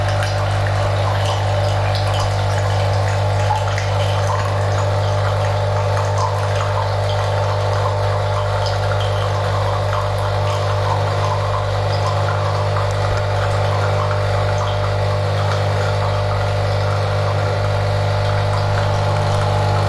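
A coffee machine runs steadily with a low motor hum and a constant bubbling, gurgling water sound, loud and unbroken for the whole stretch with no voices.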